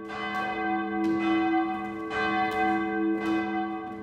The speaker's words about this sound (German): Die Glocke aus Pišť hängt seit vielen Jahrzehnten in Baden-Württemberg im Glockenturm der Kirche St. Johannes Evangelist in Sulz am Neckar.